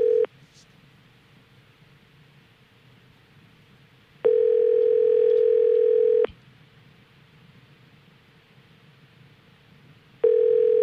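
Ringback tone of an outgoing phone call to a Home Depot store: a steady electronic buzz-tone sounds for about two seconds, pauses roughly four seconds, and repeats over a faint line hiss, clear, with no voices.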